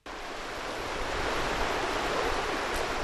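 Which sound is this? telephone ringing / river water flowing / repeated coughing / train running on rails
river water flowing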